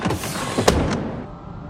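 A car door slams shut with one sharp, solid thud, surrounded by a few lighter mechanical clicks and clunks, with no one speaking.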